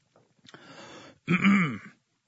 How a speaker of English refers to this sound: As I have a coughing fit, excuse me.